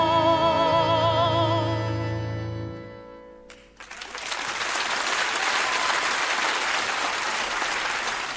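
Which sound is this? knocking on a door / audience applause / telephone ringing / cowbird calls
audience applause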